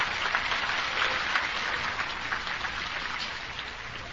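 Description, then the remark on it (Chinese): A crowd applauds steadily for about four seconds to thank Dharma Master Hui Lu, a dense, hissing wash of many hands clapping at once with no voices over it, holding an even loudness throughout. “好，谢谢慧律法师给我们这个开始，那我们再次以热烈的掌声谢谢慧律法师，谢谢。”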